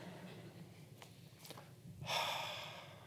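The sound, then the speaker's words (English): A single sharp, breathy gasp bursts in after a stretch of quiet room tone, then trails off as a fading exhale. “Men had facial hair. Gasp.”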